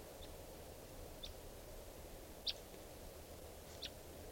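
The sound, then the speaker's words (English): A wild bird, recorded at 3:10 p.m., gives four brief, high-pitched chirps spaced irregularly over a steady low background hiss; the third and fourth calls stand out most, with no voices present. “Recording at 3:10 p.m. and there's a wild bird here.”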